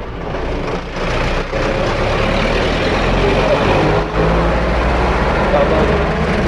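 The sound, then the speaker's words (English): Heavy car and truck traffic rumbles past, a steady, loud wash of engine drone and tire noise with deep low hum and no pauses, indistinct voices faintly mixed underneath. “We go somewhere else, there's too many cars here.”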